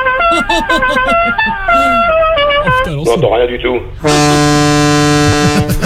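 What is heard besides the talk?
car horn honking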